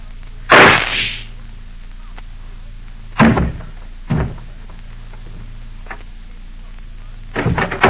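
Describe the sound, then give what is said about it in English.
A single sharp, loud gunshot from a small flat-handled gun strapped under a coat alongside the chest, cracking out with a brief ringing tail, followed later by a few softer knocks and thuds against a quiet background. “I heard a shot.”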